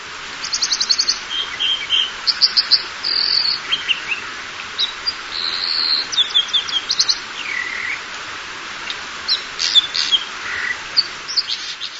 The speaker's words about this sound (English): This phenomenal gray bird is the American dipper, also called a water ouzel. Dippers are found near rapidly flowing mountain streams in the American West.